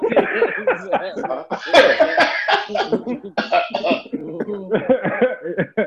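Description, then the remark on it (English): Several raspy coughs break up a stretch of chuckling, with a louder burst of coughing in the middle before the laughter picks back up. “I was gonna say cough.”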